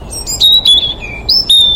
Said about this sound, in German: Hier oben zwitschert ein Rotkehlchen.